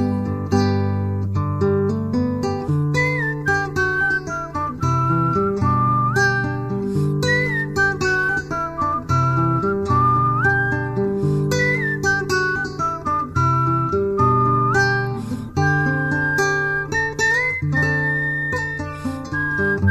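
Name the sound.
whistling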